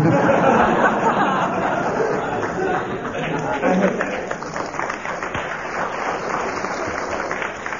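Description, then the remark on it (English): An audience gives a steady, subdued round of applause after a quoted answer describing a woodlouse, mixed with crowd chatter and a few chuckles, holding at a fairly even level for several seconds before thinning slightly. “Applause sounded more like sympathy than appreciation.”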